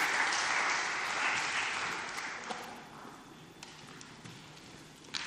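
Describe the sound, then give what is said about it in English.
A crowd claps steadily for the volunteer watchmen in a dense wash of applause that is loudest at the start and gradually thins and fades, leaving scattered individual claps at the end. “Let's have a round of applause for our watchmen, our volunteers.”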